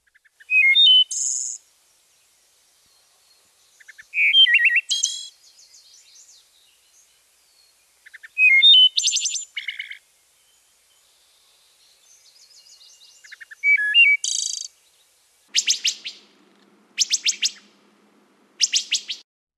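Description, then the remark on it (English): A wood thrush sings alone, repeating clear flute-like phrases that end in a thin, buzzy trill, with pauses between each phrase and a few sharp bursts near the end. “This particular version, you can't quite hear the Iole, but you can still hear the flute-like tone with the little trill at the end. This is the wood thrush, and wood thrushes are often on the ground, so they're easier to actually spot than a vireo.”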